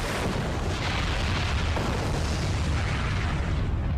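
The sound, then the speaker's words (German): A deep, sustained roar of a volcanic eruption between Sumatra and Java, an explosion with greater force than 100 Hiroshima bombs; dense rumbling and booming that fills the whole clip at steady loudness with no voices. “Wie konnte es zwischen Sumatra und Java zu einer Explosion kommen, die in ihrer Sprengkraft größer war als die von 100 Hiroshima-Bomben?”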